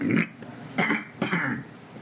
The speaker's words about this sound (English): I have to clear my throat. Now, since I've cleared that,